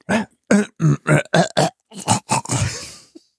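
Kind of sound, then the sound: human body sound, throat clearing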